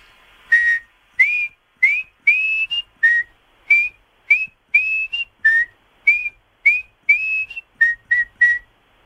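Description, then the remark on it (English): A person whistles a lively tune alone, about sixteen short, clear rising notes in a steady bouncing rhythm, fairly loud with brief gaps between them. “I just need one last whistle from you.”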